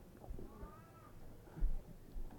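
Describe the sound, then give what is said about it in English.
One faint, drawn-out meow from an old cat, rising then falling, set against quiet room noise and a few soft low thumps, with no one talking. “My ancient cat here. You sound like a baby.”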